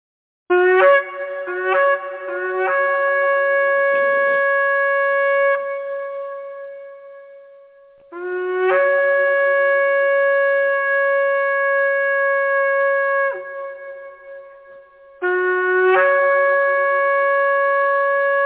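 A shofar sounds alone: a few quick staccato blasts, then three long, loud, sustained calls with a bright, brassy, buzzing tone that scoops up in pitch at each onset.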